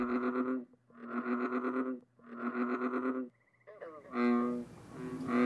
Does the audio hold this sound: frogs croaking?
yes